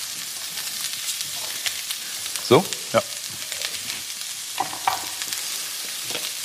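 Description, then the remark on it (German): Steady, hissing sizzle of broccoli and bell pepper stir-frying in a pan, tossed for two minutes before curry paste is added, with a few sharp clacks and scrapes of utensils against the pan. Brief speech is heard over the frying. “Wir schwenken das jetzt noch 2 Minuten durch.”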